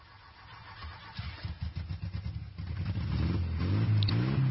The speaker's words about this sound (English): What is that? Seems to be a micro. It sounds like it might be. Hey, was that a motorcycle?